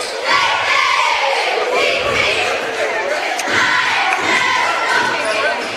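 A loud crowd of Indians fans at a basketball game against the Tigers roars in protest at a foul call, a dense wash of shouting and jeering voices that swells and stays high throughout, with occasional sharper yells and faint thuds underneath.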